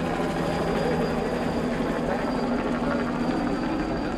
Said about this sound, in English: They stream along walkways that pass through roiling clouds of mist as sightseeing helicopters scatter flocks of parrots and toucans overhead.